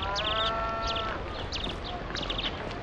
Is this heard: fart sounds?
no